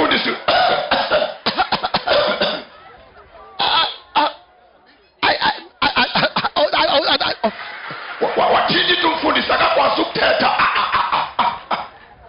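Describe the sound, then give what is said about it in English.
A voice imitates coughing, with repeated rough bursts and hacking fits separated by short pauses, loud and close, sometimes running into throaty vocal noises. “And the pastor started coughing.”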